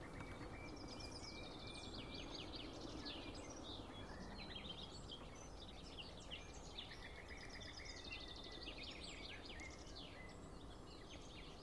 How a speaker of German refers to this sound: Bei uns heißt sie auch die Kieselsteine, weil ihr Kontaktruf und ihr Warnruf klingt wie zwei kleine Flusssteine aneinander geschlagen. So klack, klack, klack, klack, klack, klack, klack, klack, klack, klack, klack, klack. Da hören wir es hinter uns.